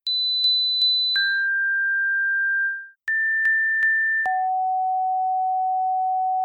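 Pure sine test tones: three short high beeps then a long steady lower tone, and the pattern repeats at a different pitch. The tones are clean and loud, with no voices.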